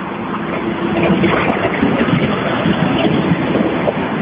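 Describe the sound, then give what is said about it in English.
A truck drives past with a loud, steady roar, a deep rumble mixed with a rushing hiss that holds for several seconds. No one speaks. “and here comes that truck.”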